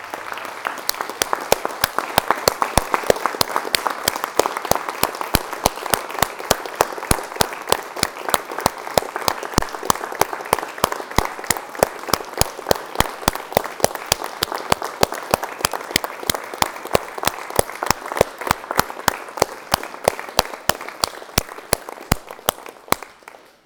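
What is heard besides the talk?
audience applause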